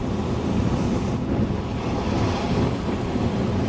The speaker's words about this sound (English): The waves are still coming in pretty strong.